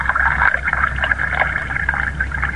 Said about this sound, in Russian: Налейте воду из графина. Ну, лейте же.